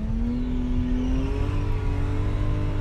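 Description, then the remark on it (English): A car brakes and skids across an arena floor, going round in donut-style circles, under a loud, continuous engine drone; the low engine tone climbs briefly, then holds steady throughout, with no one talking. “And you can probably hear quite how much we're braking and skidding across the arena floor as well.”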